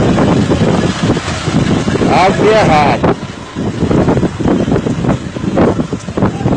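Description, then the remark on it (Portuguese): Loud, blustery wind roars across the microphone in heavy buffeting gusts, raising a dust cloud in Riacho do Meio, easing briefly midway before surging again, while people talk underneath the rushing noise. “Muito vento mesmo, muito vento.”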